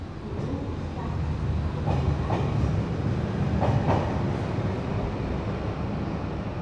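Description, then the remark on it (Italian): A metro train on the yellow line, heading to the Duomo, rumbles steadily along the tracks, a loud continuous low roar with occasional clacks from the rails. No one speaks. “Prendiamo la linea gialla della metropolitana fino al Duomo.”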